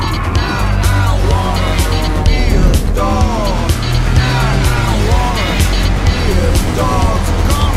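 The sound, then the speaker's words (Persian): A car engine roars loudly and continuously, its pitch surging and dropping as it revs hard while chasing a truck, with excited voices talking over the throbbing rumble. “گمش نکن، هر جا بره باید دنبالش بری. گاز بده.”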